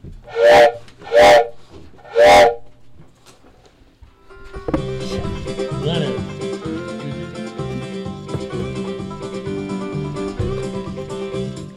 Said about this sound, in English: Is that the train I hear? Could it be drawing near?